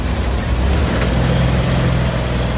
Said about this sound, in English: You said the truck is running? Running. Is it running well? You can listen to it in the background.